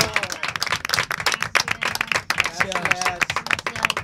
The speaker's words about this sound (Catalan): així que això és per tot vosaltres, així que un aplaudiment ens donem a tots.